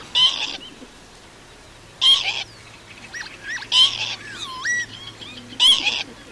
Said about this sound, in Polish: Ale to, co ciekawe, na samej głowie jest takich kilka piórek, które tworzą taki fajny czubek, a jednocześnie jak zobaczymy tokujące wiosną czajki, które...